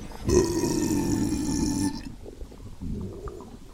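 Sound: loud burp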